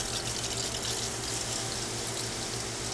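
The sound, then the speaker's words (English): Water laced with a nutrient mixture sprays in a steady, continuous hiss onto plant roots, as it does every 8 minutes in a hydroponic garden at a brewery, accompanied by a low droning hum, fairly quiet, with no voices. “Water laced with a nutrient mixture sprays down plant roots every 8 minutes.”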